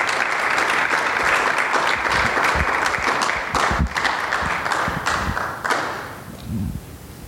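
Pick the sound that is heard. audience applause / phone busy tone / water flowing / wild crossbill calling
audience applause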